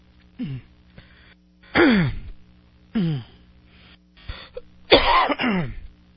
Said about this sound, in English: Oh, man, I apologize to everybody. I don't have a cough button here, so when I cough, and you hear it.